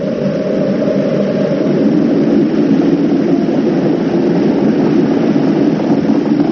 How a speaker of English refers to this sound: We have main engine start. 4, 3, 2, 1. And liftoff of the 25th Space Shuttle mission, and it has cleared the tower.